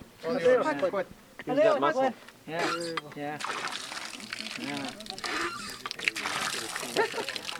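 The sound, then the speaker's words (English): Voices speak briefly, then a 73-year-old woman tries out a water pump in front of a new home in the northeast corner of the Navajo Nation; water gushes out in a steady rushing pour that continues to the end, with faint voices underneath. “tries out the water pump in front of her brand new home, the first on the reservation built with Flexcrete.”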